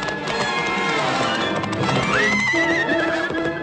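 Ichabod's frightened horse gallops faster, fleeing a pursuing horseman, with rapid, steady hoofbeats while loud neighs and whinnies rise over the pounding, continuous with no talking.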